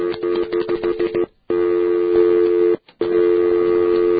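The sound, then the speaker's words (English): A steady, buzzy telephone line tone over a muffled phone connection, starting with a burst of choppy clicks and beeps, then holding loud and even, cut by two brief silences. “Let me get a tone.”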